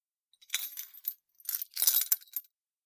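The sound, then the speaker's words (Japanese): A key clinks and jingles as it is handed over, a few bright metallic taps in two short bursts, fairly quiet with no voices. It is the only key. “はい、これが鍵よ。一つしかないからなくさないようにしてね。”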